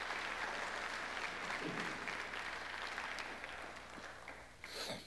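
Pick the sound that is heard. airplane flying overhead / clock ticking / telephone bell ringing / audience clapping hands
audience clapping hands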